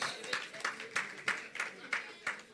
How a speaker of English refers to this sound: Clap for the Lord Jesus.